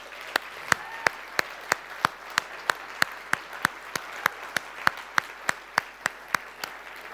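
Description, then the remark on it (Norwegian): Audience applause for the worship singers, in a steady, even rhythm: sharp claps land about three per second for several seconds over a soft, constant wash of background noise, with no one speaking. “Jag tror kanske vi kan ge en applaus till lovsångarna på den platsen.”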